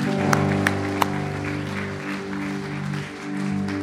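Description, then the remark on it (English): A church audience applauds the Lord with a steady, dense wash of clapping over sustained organ or keyboard chords, with a few sharper claps standing out early on. “Let's give the Lord an applause for today.”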